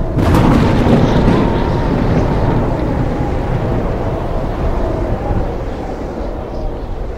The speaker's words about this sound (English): Weather, like the roar of a powerful wind and the crash of lightning.